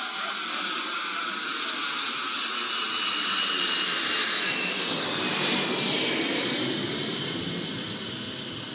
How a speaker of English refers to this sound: Can't you fly this jet any faster? The bleeding birds are passing us by. We're moving twice the speed of sound,